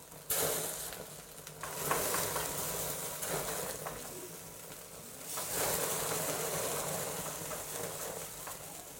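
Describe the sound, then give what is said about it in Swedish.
Fat lying at the bottom of a hot pan sizzles, spits and burns off, a steady hiss with dense crackling that swells slightly about halfway through. No one speaks. “Det fittet som ligger nere i, det är det som brinner upp.”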